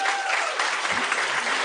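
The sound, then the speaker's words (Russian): Audience members who go to the gym clap steadily throughout, a dense, even patter of many hands at a consistent loudness, with no voices standing out. “Кто-то ходит в спортзал, похлопайте.”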